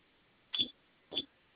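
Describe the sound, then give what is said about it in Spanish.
Two short presses on the hash key of an alarm keypad, each with a brief electronic beep, spaced about half a second apart, heard alone over a faint phone-line hiss. “Vamos a su teclado de alarmado, por favor. Sí. Ya estoy ahí. Presionemos tecla de gato 3 veces.”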